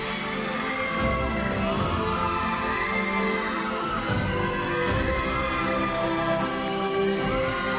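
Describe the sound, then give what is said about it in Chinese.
An audience applauds and cheers steadily for several seconds, a dense, loud wash of clapping blended with upbeat music playing underneath, with no speech, welcoming two star performers. “掌声欢迎两位超级红星”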